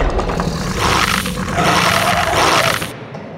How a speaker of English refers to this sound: Dogs! There's a dog outside my door. I thought we were underground, but who knows anymore because there's a fucking dog outside my door. Hear that?